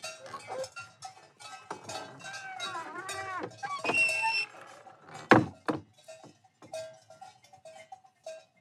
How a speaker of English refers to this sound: And the view is Hills Are Alive magic, except we're not in Austria. We're in Germany. So snow-capped mountains, cows with bells, meadow flowers.